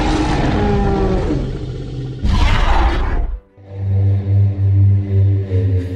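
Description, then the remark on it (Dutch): A dinosaur roar sound effect: a deep, rasping bellow with a sharp burst midway, a brief drop, then a low pulsing growl that swells and rolls on, loud with no voices. “We gaan door met een vraag over dino-brullen.”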